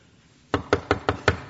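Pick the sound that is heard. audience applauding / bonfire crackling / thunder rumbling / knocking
knocking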